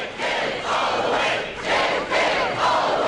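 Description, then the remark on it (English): A large crowd at a Democratic campaign rally roars and cheers continuously, a dense wash of many voices with swelling shouts rising and falling in waves, loud throughout with no single speaker standing out. “Partly because the race itself is so unpredictable, all four of the leading candidates have been attracting large, enthusiastic crowds.”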